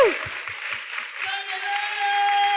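A crowd applauds in a dense, steady wash of clapping that holds at an even loudness for a few seconds, with a faint sustained tone running underneath.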